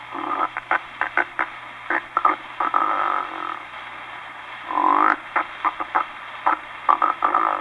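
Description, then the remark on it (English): A voice imitates the interrupted-inspiration or static-lag type of snoring, with a halting, interrupted in-breath: rapid choppy bursts that stutter and catch, with a longer rasping snore midway, fairly loud over faint background hiss. “And now we approach the evident sign of the experienced and accomplished snorer. Type 7, the interrupted inspiration or static lag.”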